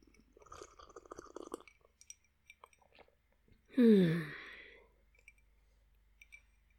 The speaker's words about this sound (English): While I'm just here, sipping and watching.